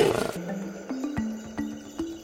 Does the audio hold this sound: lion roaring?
yes